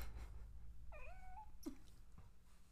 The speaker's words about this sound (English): Baby me. Baby meows.